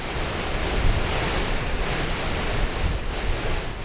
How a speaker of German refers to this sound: Immer noch Sturm, ohne Unterbrechungen. Die 4. Woche ist angebrochen am Shishapangma.